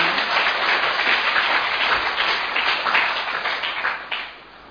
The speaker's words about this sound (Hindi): तो आप अपने लिए ताली बजाओ, हम कितने भाग्यशाली हैं।